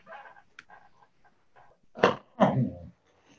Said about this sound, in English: I'm sorry, I was coughing.